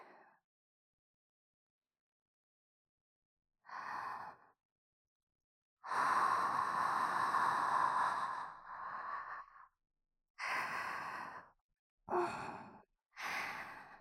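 Soft, hot breaths blown into the ear in a series of sighing exhales, one long and several shorter, each breathy and airy with quiet pauses between, no talking.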